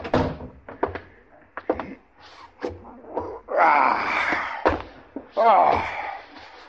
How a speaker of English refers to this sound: Close the door